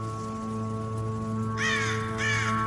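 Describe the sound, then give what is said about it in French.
A crow flies overhead in the morning, around 8:31, cawing twice in quick succession: two harsh, raspy calls near the end, over a steady low mechanical hum that runs throughout. “Le corbeau passe au-dessus de moi, comme tous les matins.”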